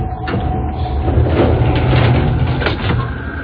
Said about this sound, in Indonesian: Pintu lift yang terbuka perlahan menutup lagi.